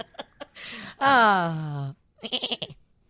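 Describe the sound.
A person does a loud goat-bleat impression, one wavering, nasal cry about a second long that slides downward in pitch, with breathy noises before and brief talk or laughter after.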